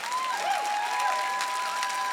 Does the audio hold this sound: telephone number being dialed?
no